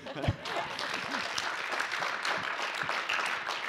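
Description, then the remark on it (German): A crowd claps steadily throughout in applause for Jesus, a dense wash of many hands from a sizable audience, with a few voices and cheers mixed into the applause. “Genau, das wäre der mindeste Moment, wo ihr einen Applaus geben für den wunderschönen Jesus.”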